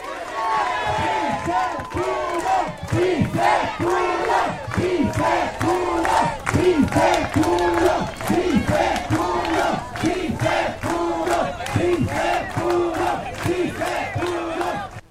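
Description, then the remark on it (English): A large crowd of strikers chants 'Sí se puede' in a steady, loud rhythm, celebrating winning the strike, voices rising together in repeated pulses with cheering and clapping mixed in throughout. “So he's encouraging a big response and a big applause, saying that we won the strike.”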